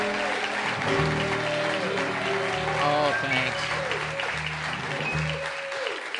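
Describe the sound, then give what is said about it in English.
Steady audience applause greets the introduction of Michael Feldman on the quiz show What Do You Know, a dense crackle of many hands clapping under music, while a man briefly speaks over it. “Okay, now the same introduction without the applause.”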